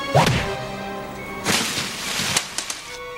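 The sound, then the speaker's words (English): Several sharp, loud slaps crack out at uneven intervals, each a quick smacking hit, with a few smaller taps near the end over a faint sustained musical tone. “Oh, please, please, don't slap me.”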